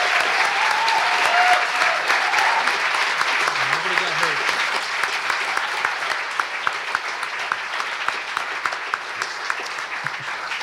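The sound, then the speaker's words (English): A crowd of people claps steadily for about ten seconds for the guests of an evening event at Dayblock Brewing, dense and sustained, with individual sharp claps standing out as the applause thins toward the end. “Can we have a round of applause for all of our guests tonight?”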